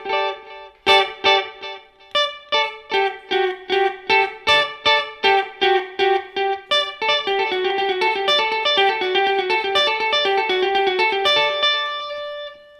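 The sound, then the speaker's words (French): A plucked, tonal melody runs through a delay effect, each note followed by repeats at nearly the same loudness, so the notes blur into a dense, ringing wash by the end. “On veut vraiment que les deux se mélangent et qu'il n'y ait, pas en fait le son direct plus fort et l'effet en dessous, mais vraiment que les deux soient au même niveau.”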